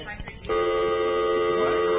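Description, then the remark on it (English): A steady electronic telephone tone sounds loud, starting after a brief moment of muffled noise and holding unbroken for over a second, like a phone line tone as someone is being phoned. “We're going to try and get him on the phone.”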